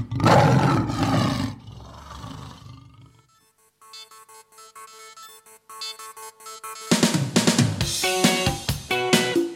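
A lion roars loudly for about three seconds, then a bright, ringing melodic tone plays, before a dense, loud burst of sound with musical tones returns at the end.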